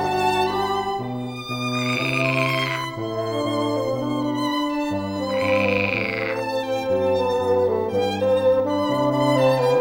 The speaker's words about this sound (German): Und tatsächlich quaken bei der Probe ein paar echte Frösche mit. Passt mal genau auf und zählt mal mit, wie oft wird hier gequakt.